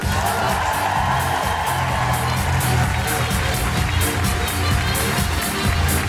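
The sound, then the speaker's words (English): A crowd claps and cheers with scattered whoops as Steve Alley is introduced, a dense, steady roar of applause lasting several seconds over a low, rhythmic musical backing. “Then you will need to join me in clapping your hands and making incredible woo-hooing noises for the one, the only, the amazing, Steve Alley!”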